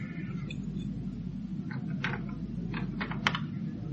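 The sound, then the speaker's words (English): Keys jingle and click in a short cluster of light metallic taps as someone unlocks the door of a yellow car with keys, all over a steady low rumble, with no talking. “And it's locked. Well, try the keys from Lakin's pocket.”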